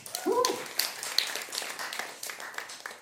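A crowd applauds steadily for about three seconds for a volunteer who comes forward to be prayed for, a dense wash of many hands clapping, with a brief vocal whoop or cheer rising near the start.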